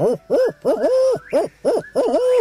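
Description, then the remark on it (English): A person imitates a barred owl through cupped hands in the Ozark hills as the sun sets, giving a series of loud, rhythmic hoots with rising and falling swoops, ending in a drawn-out call. “I cut my hands and call like a barred owl.”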